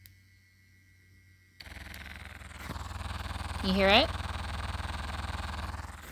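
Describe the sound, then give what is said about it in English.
A sex toy on its first setting switches on abruptly and runs with a steady, low buzzing hum and rapid pulsing suction, sucking and vibrating at once, continuing evenly while a person briefly speaks over it. “So that sucks and vibrates, first setting.”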